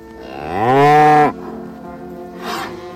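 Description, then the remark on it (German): A cow gives one long, loud moo that rises in pitch, holds, then cuts off, followed by a quieter second call trailing in the background. No one speaks. “Die Kuh im Parlament der Dinge.”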